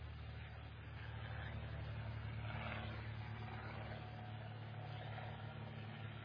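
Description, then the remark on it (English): A steady, low droning roar of an airplane engine passing overhead, continuous and even for several seconds with a rumbling hum underneath and no voices. “We'll wait for the plane to go by.”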